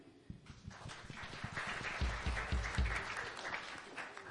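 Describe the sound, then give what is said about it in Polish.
A group claps steadily for a few seconds to applaud the people who presented, a dense patter of many hands that swells slightly in the middle before easing off, with no voices over it. “Brawo dla pokazujących.”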